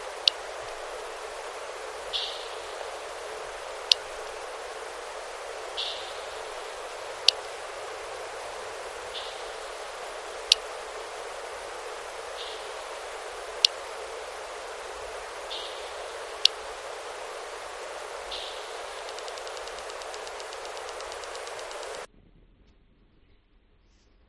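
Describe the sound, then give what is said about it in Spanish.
Sharp echolocation clicks, originally an ultrasonic signal, snap out every few seconds over a steady hiss as the animal closes in on its prey, with soft faint chirps between them, until the noise cuts off abruptly near the end. “produce una especie de clic que escucha el eco de la presa y va acercándose”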